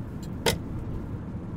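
Steady low road-and-engine rumble from inside a moving car, with one short sharp click near the start. No one speaks.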